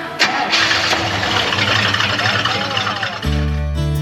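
The key is turned and a Chevelle car engine cranks for a few seconds with a grinding starter whir, then catches and settles into a loud, steady low rumble.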